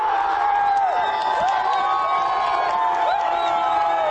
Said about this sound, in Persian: یک بر صفر بر نفع تاجیکستان در دقیقه 46. هنوز داد و فریاد مخلصان از گل نخست تمام نشده، نومان جان حکیموف در دقیقه 47 حساب را 2-0 نمود.